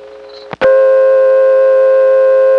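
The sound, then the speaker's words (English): An old-fashioned dial tone from a payphone near the Delaware Water Gap: after a quiet hum and a couple of clicks from the handset, a loud, steady multi-pitched tone drones on continuously and unbroken, with no talking. “Another old-fashioned dial tone, and this one sounded different from the camp office.”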